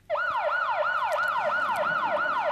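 An Austrian public warning siren, heard throughout Austria, sounds on its own, its pitch swooping up and down in quick, regular cycles, about three per second, without a break.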